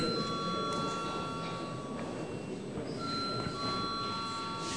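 signal or alarm, parliament voting bell ringing

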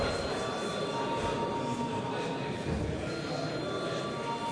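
signal or alarm, parliament voting bell ringing

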